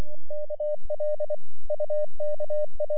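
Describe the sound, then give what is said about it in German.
A single steady tone keys on and off in rapid dots and dashes, a clear Morse code signal in groups with short pauses, with faint low thumps underneath and no voices. “Morsezeichen, klar und deutlich, klicken in die Stille.”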